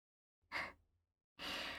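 A baby's yawn comes as two breathy, airy exhalations: a short soft one, a brief pause, then a longer, fuller breath that stays loud until the end, with no talking.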